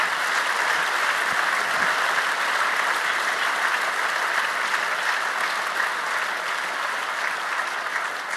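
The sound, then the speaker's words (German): Sustained applause from an audience for the election observers, a dense, steady wash of many hands clapping at a strong, even level for the whole stretch, with no voices standing out. “Und wir müssen nochmal einen ganz herzlichen Applaus bitten für die Wahlbeobachter, die da sich morgens früh um 6 aus dem Bett gequält haben.”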